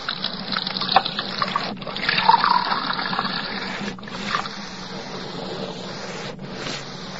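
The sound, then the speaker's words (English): Water runs steadily into a glass in a kitchen, a continuous splashing hiss that briefly pauses a few times before resuming. No voices are heard. “You didn't drink the water”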